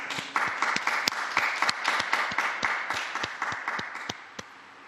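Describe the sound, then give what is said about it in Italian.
A large crowd applauds the newly beatified martyrs, dense clapping with a few sharper individual claps standing out, holding strong for several seconds before thinning and fading near the end. “Un applauso ai nuovi beati.”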